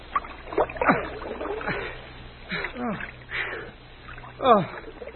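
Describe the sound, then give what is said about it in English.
Water splashes and sloshes in uneven bursts as people in icy water where a plane went down grab hold of a floating coffin and pull themselves out, voices grunting and calling out over it, the splashing moderately loud and irregular, with a strained cry near the end. “Good to get out of that icy water.”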